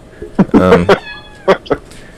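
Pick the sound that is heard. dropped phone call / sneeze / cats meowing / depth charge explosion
cats meowing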